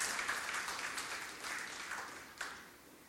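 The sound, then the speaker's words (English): A church audience worshiping Jesus Christ claps together to give the Lord a clap of praise: steady, sustained applause, a dense patter of many hands that holds for a few seconds, with one sharper burst of clapping near the end. “Can we give the Lord a clap of praise?”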